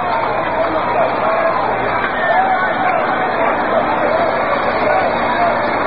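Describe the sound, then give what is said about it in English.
A large baseball crowd at Forbes Field, during a Yankees–Pirates game in the bottom of the eighth inning, murmurs and buzzes steadily, a dense wash of voices and chatter with no single speaker standing out, holding at an even, moderately loud level throughout. “And now the fans begin to warm to their task a little bit.”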